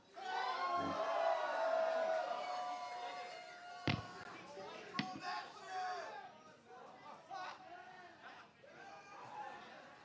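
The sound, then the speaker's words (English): A concert crowd cheers and shouts loudly in a sustained roar, with whoops and scattered claps, then the noise slowly tapers into a looser murmur of voices and yells. “Make some noise!”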